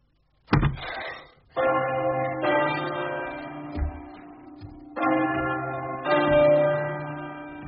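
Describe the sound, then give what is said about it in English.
Church bells named Gorgeous, Surveillance, John, Jericho, Jubilee, Divinity, Batty Thomas and Taylor Paul ring out loud, several overlapping strikes pealing one after another with long, shimmering tones that hum and decay between each new clang. “Look at all the bells.”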